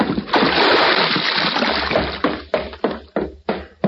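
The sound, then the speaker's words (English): A man's heavy body plunges into cold water with a loud splash, followed by a couple of seconds of churning and several shorter, sharp splashes as the water settles. “Sorry, fella, the water's gonna be cold.”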